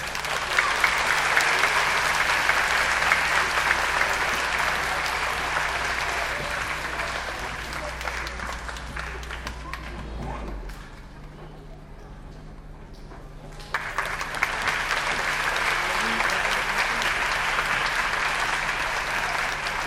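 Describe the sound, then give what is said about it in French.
A large audience claps enthusiastically and steadily for musicians about to perform at a music and dance show, the applause thinning briefly in the middle before surging back to full strength. No one speaks over it. “je vous demande d'applaudir les …”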